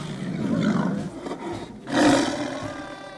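A tiger roars twice, loud: a long rumbling roar, a brief lull, then a second powerful roar that fades out. No one speaks.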